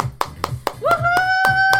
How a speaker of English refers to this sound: Once again, parents, let's give our kids a big round of applause.